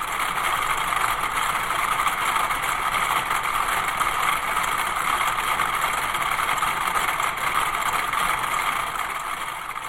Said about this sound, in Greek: Ένα συμφωνικό ποίημα χτύπων. Χτύποι, κλικς, αντίστοιχα με του μετρονόμου